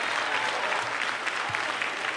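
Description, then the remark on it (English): A large audience in North Carolina claps steadily in a dense, continuous wash of applause as a shout of praise to the Lord, with faint cheering voices blended into the noise throughout. “If you know God's good tonight, let him hear your hand clap and give him a great shout of praise in North Carolina.”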